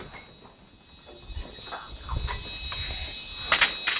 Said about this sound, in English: Right, I'll open the door.